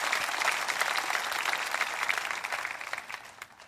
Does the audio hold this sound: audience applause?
yes